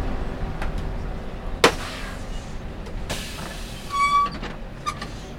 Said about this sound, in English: It's just about 6:30 in the morning, and we are on the way to Crater Lake. And as you can hear, a little rattling, a little rumbling on the back of a standard school bus making our way to Crater Lake.